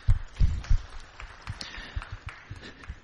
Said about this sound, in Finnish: Kiitos Henkka. Kannataan Henkalle aplodit.